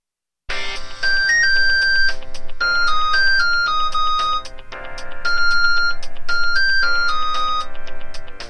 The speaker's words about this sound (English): … as cell phone ringtone.